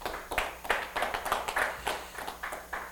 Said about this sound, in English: How many can clap your hands to the Lord?